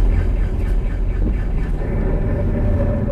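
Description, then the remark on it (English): Car brakes grind with a continuous, harsh metallic rumble, heavy in the low end and steady in loudness for about three seconds, with no voices over it. “That's one of those grinding type noises. That's a bit more serious, right?”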